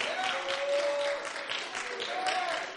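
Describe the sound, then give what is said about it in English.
An audience claps hands in praise of God in a dense, steady wash of applause, sustained at an even loudness throughout, with faint sustained vocal tones drifting over the clapping. “Let's clap our hands unto him and praise him today.”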